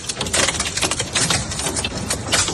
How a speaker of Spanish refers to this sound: El sonido del granizo, eran auténticas piedras.